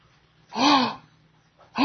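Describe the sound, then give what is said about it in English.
A sharp, breathy gasp with a voiced edge, loud, made deliberately by a single person, then a second intake begins right after a short pause. “Gasping for eternity at God's grace.”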